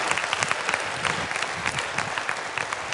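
An audience claps steadily, a dense, even patter of many hands sustained throughout at a moderate, unbroken level, with no voices rising above it.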